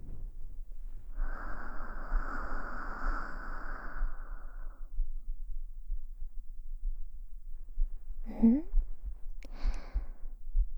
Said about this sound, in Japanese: 心臓の音、聞こえてきて。そう、私の音、聞いて。ドクンドクンって。